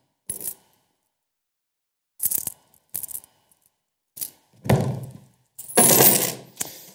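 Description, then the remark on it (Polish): Coins clink and rattle as they are handled, in several short bursts separated by pauses, the last ones louder and longer as a handful shifts together. They are ten assorted coins from a collection, including coins from Mexico and Singapore and a 20-kopeck coin. “Wybrałem ze swoich zasobów różne najciekawsze monety.”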